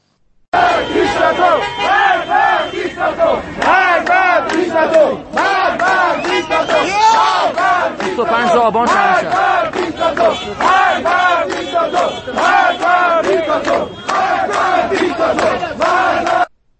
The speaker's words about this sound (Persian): گوشه ای از صدای مردم معترض کف خیابان‌های ایران رو میشنویم